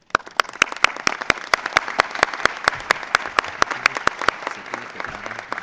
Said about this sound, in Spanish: Invito a toda la audiencia a darle un caluroso aplauso por este éxito.